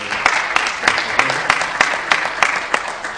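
An audience at a church town hall claps steadily, a dense patter of hands with occasional sharper claps standing out, sustained and fairly loud throughout.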